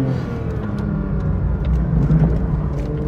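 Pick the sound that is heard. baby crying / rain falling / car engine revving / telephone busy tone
car engine revving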